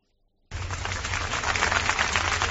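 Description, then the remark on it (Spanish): After half a second of silence, a crowd bursts into applause: dense, crackling clapping that holds steady and loud, swelling slightly toward the end, with no voices. The applause is the farewell given to the Duchess of Alba. “Estos que oyen son los aplausos con los que ayer era despedida la duquesa de Alba.”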